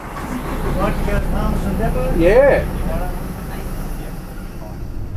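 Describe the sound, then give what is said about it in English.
A bus pulls up at a stop in the suburbs of Darwin on a hot morning: a steady diesel rumble, with a brief rising mechanical whine midway before the engine settles back to idle. Muffled voices murmur faintly underneath. “I'm in the suburbs and a bus has just pulled up.”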